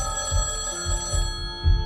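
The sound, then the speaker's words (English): A telephone on a nightstand rings steadily and fairly loudly at night, its bright metallic tone sustained throughout, with soft low pulses thudding underneath. No one speaks. “At night, a telephone sits on Jean's nightstand.”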